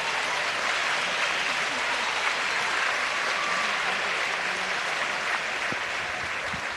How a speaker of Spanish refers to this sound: quiero un aplauso para ella.